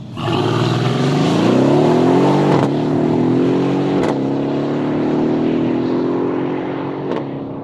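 A loud Mercedes-AMG sports car engine roars up through the revs at the airfield in Mnichovo Hradiště, with sharp gear changes interrupting the climb two or three times, sustained, with no voices.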